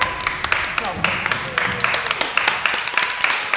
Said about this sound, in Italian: Signore e signori, questa storia è stata portata avanti e abbiamo concluso a lieto fine. Vai con l'applauso!